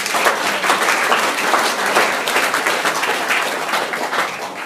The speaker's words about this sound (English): Cool. Let's give him a hand, eh?